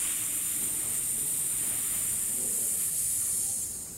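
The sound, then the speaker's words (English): A steady, bright hissing of snakes inside a sack at a post office runs unbroken for about four seconds, with a soft low rumble underneath and no voices. “It's making a strange hissing sound.”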